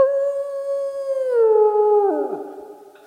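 A drawn-out dog howl holds a steady pitch, then slides downward and breaks into overlapping wavering tones before fading, fairly loud with no talking.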